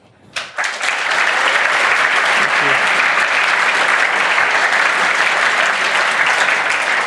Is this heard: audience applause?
yes